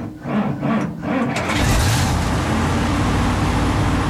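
Steady, loud engine rumble and road noise from inside a moving bus in Washington carrying a footballer to a friendly match, a continuous low drone that swells slightly after the first second and then holds constant.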